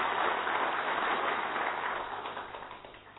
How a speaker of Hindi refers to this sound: पुनः जोरदार तालियों के साथ बहुत बहुत धन्यवाद।